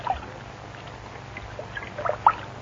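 Water pours into a bathtub with a soft, steady rush, a few small splashes rising near the end. It stays fairly quiet throughout, with no voices.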